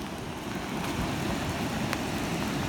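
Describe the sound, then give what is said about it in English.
Heavy rain pours down in a steady, dense hiss, loud, with a continuous rushing wash of water underneath and no voices. “The rain is pouring down as Trina Thompson walks towards the sound of rushing water”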